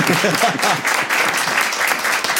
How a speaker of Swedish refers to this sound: Först bara, kan vi inte ge dem en applåd för att de ska göra det här?